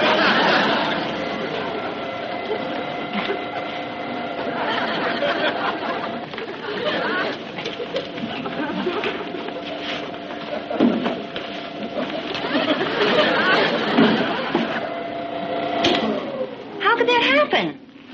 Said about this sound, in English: What in the world is that? It sounds like the garbage disposal. Well, how could it go on by itself? Maybe it's a short circuit.